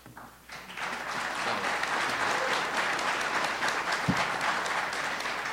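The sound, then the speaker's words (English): An audience at a candidate debate breaks into steady, sustained applause, a dense wash of clapping that swells within the first second and holds at an even, fairly loud level throughout, with no voices standing out. “I want to remind the audience to hold your applause until afterwards so we can get through the questions, as many questions as possible.”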